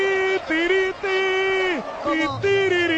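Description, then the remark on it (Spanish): A single voice sings a wordless melody, sustained notes stepping up and down in a lively march-like phrase, imitating a trumpet pasodoble tune, with faint crowd noise behind. “¿Cómo se ha arrancado? Más o menos era así. Era esto, sí señor.”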